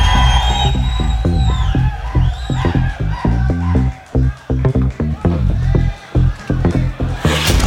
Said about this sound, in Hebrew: תנו להם כפיים.